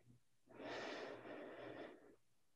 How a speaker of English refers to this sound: Breathing in.